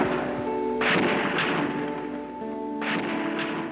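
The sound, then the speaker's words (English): Gunfire from the deck of a clock tower in Texas rings out in a few sharp bursts, with bullets ricocheting off the top of a building and leaving a whining, ringing tone that hangs between the shots. No one speaks. “Ricochet bullets bouncing off the top of the building.”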